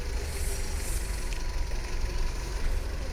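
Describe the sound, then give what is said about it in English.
A yellow Fiat car is started, its engine running with a steady low rumble and a broad hiss, holding an even level throughout the short stretch, with no voices. “Getting into a yellow Fiat. Starting the car.”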